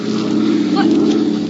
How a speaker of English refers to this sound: What? The plane's going away. They didn't see us.